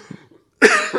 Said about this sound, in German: Ich muss gerade wirklich husten.